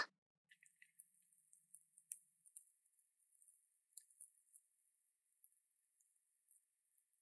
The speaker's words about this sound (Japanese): パチパチ、シュワシュワって音がしてますよね。豆にお湯が浸透して、炭酸ガスなどが出ていく音なんです。